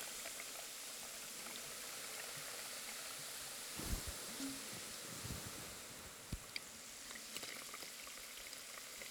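Steady, dense fizzing and crackling of carbonated water being slowly poured over someone's head, including behind the ears, a continuous hiss of tiny popping bubbles with a few soft thumps and brief pours partway through, no voices.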